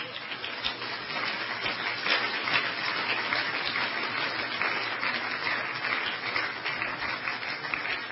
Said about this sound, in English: Let's give them a clap as they come.